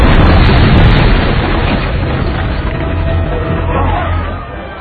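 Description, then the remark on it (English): A loud, booming special-effects explosion in a movie scene, staged by special effects coordinator Andre Ellingson, with dense low-end rumble that sustains for several seconds, then slowly tapers off, with a faint crowd-like murmur underneath. “This is a great, really great explosion.”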